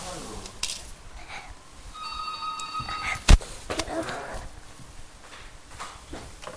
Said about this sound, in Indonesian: Weh, telepon. Iya. Telepon.